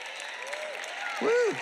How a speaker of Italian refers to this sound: Solo chi dà la decima sta applaudendo.